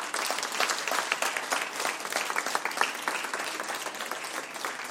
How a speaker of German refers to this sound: Wir hatten jetzt den 3., den 2. Und jetzt kommt der 1. Preis. Ich bitte um einen riesigen Applaus